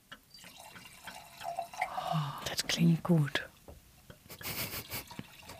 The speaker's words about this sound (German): Ich mach mal direkt eine auf, ne? Und das muss man ja hören. Eine. Das muss man jetzt hören, wie das einschenkt. Achtung.